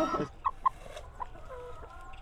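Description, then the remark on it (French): Hens cluck in short, clipped bursts, a few sharp calls standing out over a low murmur of other birds in the background. “C'est pas trop bruyant les poules?”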